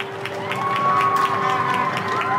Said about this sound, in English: Whether you were on your front step, hanging out of a window, or out in your garden, at 2000 last Thursday, you probably heard the sound of applause, plus a bit of whistling and whooping. It probably made your skin tingle a little.